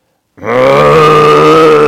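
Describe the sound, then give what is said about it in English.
A human voice imitates a water buffalo with a single loud, sustained low bellowing grunt that starts abruptly after a brief silence and holds steady, rich and buzzy, for over a second. “I don't know the sounds of a water buffalo.”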